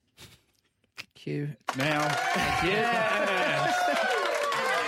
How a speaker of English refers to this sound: Therefore, we like to celebrate Idiot of the Week award. Add the cheer button now.